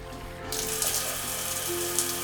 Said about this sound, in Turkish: Suyu açıyorsun.